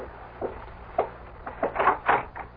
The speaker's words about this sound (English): You may answer the door now